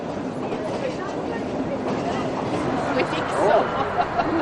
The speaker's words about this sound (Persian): و وقتی آماده رفتنند، خود را به یکی از نقاط تعیین شده می‌رسانند و قطار سوارشان می‌کند. سرعت متوسط قطار 20 کیلومتر در ساعت است.